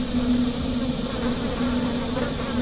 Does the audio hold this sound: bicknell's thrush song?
no